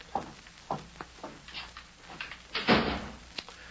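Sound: door being shut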